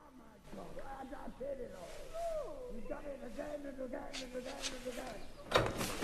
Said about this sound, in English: They run away when they hear the door opening. A forlorn-looking Toad comes out, followed by Badger.